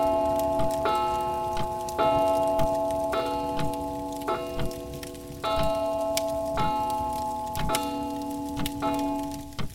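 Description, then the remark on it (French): A clock strikes nine in the evening (21:00) with a series of resonant chimes at a steady pace, about one per second, each bell tone ringing on and overlapping the next. No one speaks. “L'horloge sonne 21h.”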